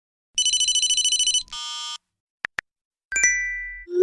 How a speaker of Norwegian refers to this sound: Jeg tror dere kjenner disse igjen. De samlede lydene fra en dag i telefonens liv.